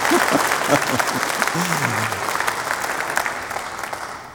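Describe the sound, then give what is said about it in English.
A crowd bursts into dense, steady applause, many hands clapping at once in a broad wash that holds for several seconds before slowly thinning out, with a brief voice heard at the start. “I thought you could have clapped there, but if you're not ready to die, then don't clap.”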